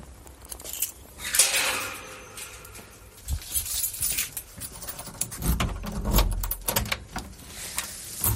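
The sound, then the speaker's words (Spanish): A door opens as people step inside a house on a beef cattle farm, with shuffling footsteps, a few dull thuds and light metallic rattling, without any talking. “Tras un primer saludo y un paseo por la explotación, nos invita a entrar en casa.”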